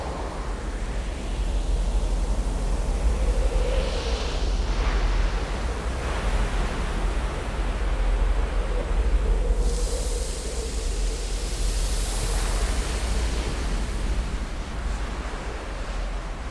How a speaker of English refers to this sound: Like waves, sand blows in the wind. Wind tornadoes create crevices on the sand dunes. Sand rolls over the ground like water.